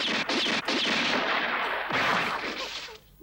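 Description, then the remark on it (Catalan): A quick burst of loud, sharp gunshots as a policeman fires into the air, several cracks in rapid succession, followed by a louder blast with a rumbling tail that fades into quiet. “En Goku salta en l'aire i es deixa caure en barrina sobre l'altre policia que dispara a l'aire.”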